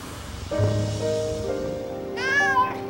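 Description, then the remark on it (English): A single meow from a cat on a waking man's chest at dawn rises and falls near the end, fairly clear, over low sustained humming tones that play underneath. “awakens to find a cat on his chest.”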